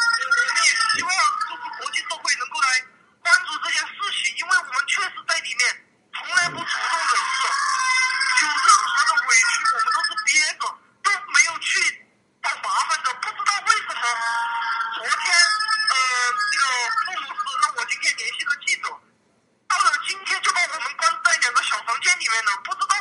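Hoarse, desperate wailing sobs come through a tinny telephone line, loud and sustained for long stretches, broken only by a few brief pauses for breath.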